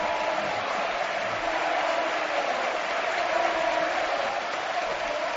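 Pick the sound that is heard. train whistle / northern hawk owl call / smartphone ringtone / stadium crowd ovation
stadium crowd ovation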